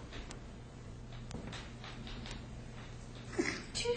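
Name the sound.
sneeze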